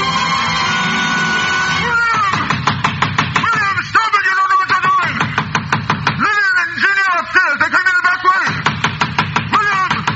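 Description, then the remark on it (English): Rapid, repeated hammer blows ring out loud as heavy boards are nailed across a door, in quick bursts with brief pauses, with voices and tonal sound underneath. “As I nailed the boards across the door, I felt as if I were driving nails into his cot.”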